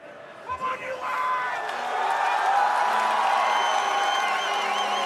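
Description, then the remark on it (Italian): A dense crowd of US soccer fans in a fan zone outside the Chase Center in San Francisco roars and cheers continuously, with chants of "USA, USA": a steady wall of many voices with rising and falling shouts and whistle-like tones layered over it. “L'inno nazionale, i cori USA, USA, cappellini a stelle e strisce.”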